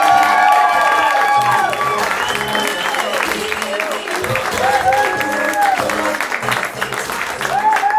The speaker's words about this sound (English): How about a round of applause for the idea of a storytelling show? That's good. Let's make it a little more exciting. And keep that applause going for our first storyteller, Jillian Lauren, everybody. Jillian Lauren!